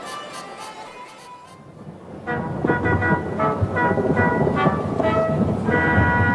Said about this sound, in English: That's thunder.